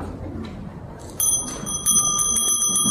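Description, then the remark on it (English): A meditation bell rings out clearly after a moment of quiet, its bright, sustained tone lingering as it is struck again once or twice, with no talking. “I'll ring that bell in 10 minutes.”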